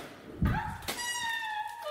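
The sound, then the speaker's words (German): A door opens with a solid low thunk, followed by a sharp click and a long, high, wavering hinge squeak that drags on for over a second, fairly loud. “Und jetzt öffnen wir gemeinsam Tür Nummer 19.”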